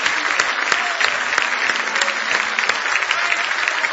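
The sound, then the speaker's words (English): A crowd claps steadily in praise of Jesus, many hands beating in a dense, continuous wash of applause that stays loud and even throughout, with no voices standing out. “Give Jesus one more big hand clap of praise tonight.”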